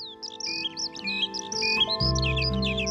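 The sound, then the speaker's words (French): Bright, rapid birdsong of high chirps and warbling trills runs throughout, fairly close, over a steady low droning tone that swells louder in the final second. “Bienvenue dans le chant des alouettes, des griffes musiciennes, des tourterelles turques et des corneilles parisiennes.”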